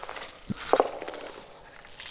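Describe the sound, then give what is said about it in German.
A few slow, soft, wet, sticky footsteps come down the stairs of a stairwell from above, growing louder, a couple of muffled thuds close together, then quiet. No one speaks. “Langsame, feuchte, klebrige Schritte, die lauter werden.”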